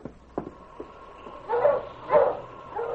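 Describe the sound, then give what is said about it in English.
Sled dogs barking after seeing people and stopping behind a shed: a few faint, short yips at first, then three louder, harsh barks in an uneven rhythm, with no voices. “The dogs see us and stop behind this shed.”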